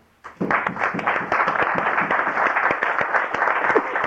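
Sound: round of applause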